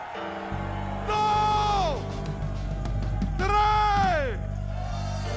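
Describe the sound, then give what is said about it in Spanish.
An audience at an evening Christian service lets out two long, loud war cries, each rising and then trailing off, over a steady low hum and background murmur, sealing prophecies and decrees in the name of Jesus. “Cada profecía, cada decreto que se ha hecho esta noche aquí, en el nombre de Jesús, lo firmamos con grito de guerra.”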